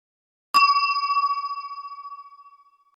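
A single bright chime rings out once after a moment of silence, its clear metallic tone lingering and slowly fading away over a couple of seconds, a signal to turn the page of a book.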